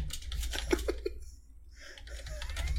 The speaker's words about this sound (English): Sorry. I'm typing stuff quick. You're typing. Okay. Chat room stuff.